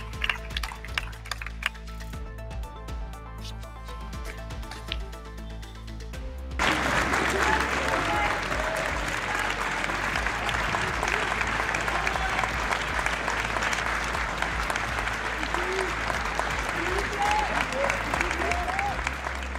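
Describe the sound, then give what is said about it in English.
A slow clap of sharp, evenly spaced handclaps builds for several seconds, then breaks into loud, dense applause from a crowd that keeps going steadily to the end. “Felt like a slow clap.”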